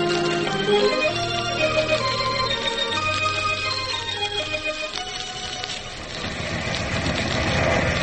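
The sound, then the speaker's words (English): Loud, continuous ship's engine room machinery drones on with a deep throbbing hum and layered whining tones, growing rougher and noisier toward the end. “How'd you like to come down to the engine room and look around?”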